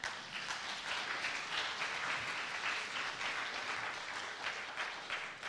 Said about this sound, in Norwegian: jeg synes han fortjener en applaus av dere.